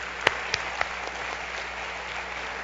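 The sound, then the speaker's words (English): An audience applauds as a clap offering to God in a steady wash of clapping, with a few sharp, louder claps standing out near the start before the sound settles into an even patter. “Let's give God another clap offering.”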